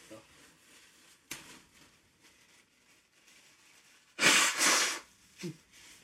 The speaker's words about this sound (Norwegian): Jeg må være så uproff at jeg må bare bøye meg tilbake, og så skal jeg snyte meg.